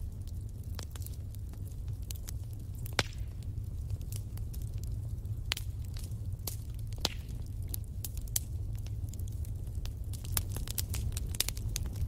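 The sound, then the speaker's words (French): A wood fire crackles steadily in a fireplace, with frequent sharp pops and snaps scattered over a low, constant rumble of flames. Moderately quiet, with no voices. “Vous écoutez le bois craquer.”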